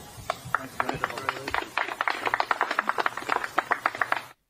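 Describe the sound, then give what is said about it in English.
A short burst of scattered applause from a small group of journalists at a press conference: quick, uneven claps overlapping at moderate loudness for about four seconds, then cutting off abruptly. No one speaks. “That is a nice story, and rare is the not the media, the awkward media laugh, but the media clap.”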